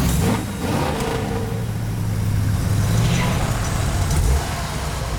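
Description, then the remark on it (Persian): A car engine hums steadily, its low drone rising slightly in pitch as if revving, with faint background noise and no clear speech. “ماشین قدرت کافی واسه شکست دادن یه موشکو نداره.”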